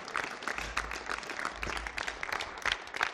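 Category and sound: crowd, audience applause and cheering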